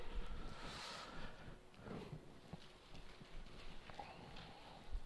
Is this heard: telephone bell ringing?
no